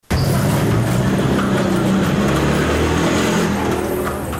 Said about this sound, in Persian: هاوانا پایتخت کیوبا که هنوز هم در برخی سرک‌های مزدحم آن موتورسیکل و گادی اسب در حرکتند